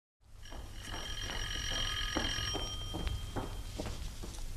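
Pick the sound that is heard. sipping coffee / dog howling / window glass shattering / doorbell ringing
doorbell ringing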